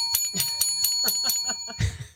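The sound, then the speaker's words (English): A thin, feeble little bell dings rapidly about eight or nine times in quick succession, moderately loud, followed by a brief low thump at the end. “We need better bells. That just sounds so pathetic.”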